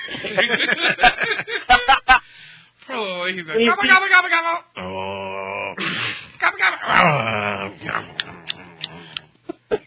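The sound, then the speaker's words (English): A voice imitates deep, throaty animal grunts and growls in several loud bursts, mixed with laughing, groaning vocal noises and no clear words. “You were like the king of like sound effects tonight.”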